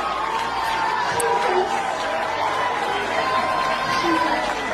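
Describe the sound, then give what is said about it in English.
A large crowd at a deliverance service roars and shouts together on the count of three in a dense, steady wall of noise, with scattered higher voices poking through the continuous din for the whole stretch. “On the count of three, one, two, three, and the crowd goes wild, and the demons start obeying.”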